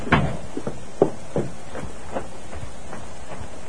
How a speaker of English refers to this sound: He opened the rear door of the Silver Dollar and found the room in which he had talked to Mr. Chester empty.